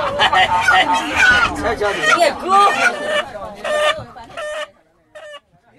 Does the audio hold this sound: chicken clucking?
yes